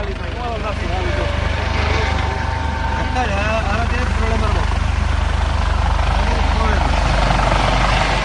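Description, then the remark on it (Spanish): A customs surveillance helicopter flies almost at water level off La Atunara beach in Cádiz province, Spain, chasing a boat with three occupants, its heavy rotor thrum loud and steady throughout, with indistinct voices calling out faintly underneath the engine noise. “Uno de los helicópteros de vigilancia aduanera persigue casi a ras de agua una embarcación en la que van tres ocupantes.”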